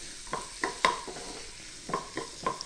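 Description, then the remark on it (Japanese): A utensil stirs and scrapes for about 10 seconds through onions with flour sprinkled over them in a pot, heat turned off, with irregular clinks and swishes over a faint background sizzle. No one speaks. “そしたら、ここで今10秒ほど混ぜましたかね。”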